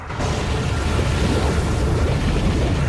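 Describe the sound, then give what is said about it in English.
Water swirls and churns down into a funnel as if a plug has been pulled, a steady, heavy rushing roar with a deep rumbling low end that holds constant for about three seconds, with no voices. “A swirling funnel forms in the water below Mike, as if a plug has been pulled.”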